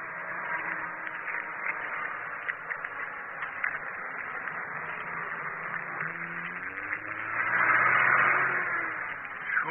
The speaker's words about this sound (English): Hey, watch out. There's a truck coming along behind. Get to the side of the road and keep your voice down.